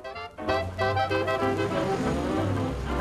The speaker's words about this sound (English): a London bus driving past the Houses of Parliament